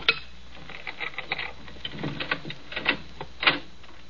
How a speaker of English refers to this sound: You'll probably come through the French windows. It's the most inviting entrance. On your guard. Cutting out a pane of glass.